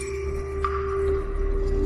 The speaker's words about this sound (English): flung the key to the other end of the room, where it fell among jars and bottles with an echoing clatter.